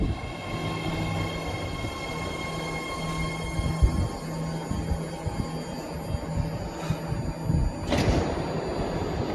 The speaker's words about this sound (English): Millions of people in the Bay Area recognize that familiar sound of a BART train arriving. That recording from Bay Area Transit News captured a sound that has become ingrained in